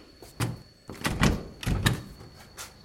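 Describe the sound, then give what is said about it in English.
Someone tries the handle of a locked door: a few rattling thunks and clunks in quick succession as the door is jiggled but stays shut, with no talking. “It's locked. The door's locked.”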